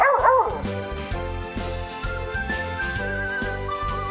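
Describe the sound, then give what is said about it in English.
A single short, bright bark from a dog that has found her bone in her doggy house rings out at the very start, fairly loud, then gives way to a steady, gently rhythmic musical backing with no talking. “Ella the doggy has found her bone.”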